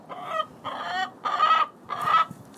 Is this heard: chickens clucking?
yes